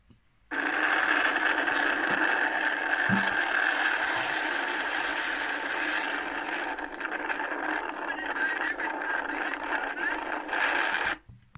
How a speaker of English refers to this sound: Meanwhile, Jesus slept through the crashing waves and roaring wind. The Gospel writer Mark tells us that the waves broke over the boat so that it was nearly swamped. Imagine that. Maybe it sounded something like this.